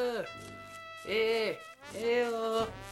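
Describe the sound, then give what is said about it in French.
Goats that have escaped bleat, two or three loud, wavering calls in quick succession with brief pauses between them, and no one speaking. “Dis, tu pourrais m'aider à rentrer les chèvres? Dans la bergerie, parce qu'elles se sont encore enfuies.”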